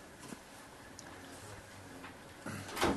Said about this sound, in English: Come on in and shut the door.